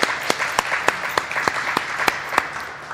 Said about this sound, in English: So let's please show our appreciation by giving a round of applause to Dean Carmichael and the campus.